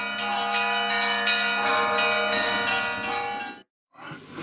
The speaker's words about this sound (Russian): Призывный колокольный звон соберет под церковные своды людей, и будет этих людей великое множество.